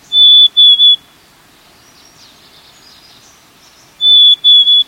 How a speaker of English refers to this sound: We're hearing the year-round sound of the black-capped chickadee. In spring, however, black-capped chickadees add a new vocalization to their repertoire, this soft fee-bee-bee.